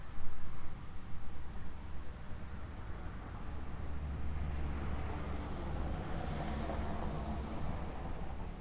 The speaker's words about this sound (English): Here comes a car.